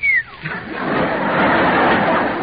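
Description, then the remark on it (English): A person gives one short whistle that slides quickly downward in pitch. It is loud, and a steady rush of noisy crowd sound follows it. “I remember hearing a whistle. That was probably your father looking at you for the first time and going...”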